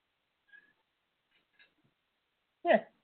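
cat meowing

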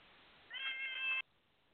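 cat meowing

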